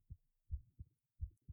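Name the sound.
heartbeat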